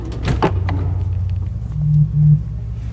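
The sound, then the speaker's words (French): A door swings shut with a short, solid knock, followed by a steady low rumble and faint hum that continue in the background. No one speaks. “Je ferme la porte pour toi.”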